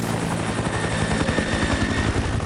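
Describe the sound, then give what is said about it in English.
A helicopter flying overhead, its rotor chopping in a fast, steady low thump under a loud, continuous engine roar, with no voices. “From where? The black helicopter?”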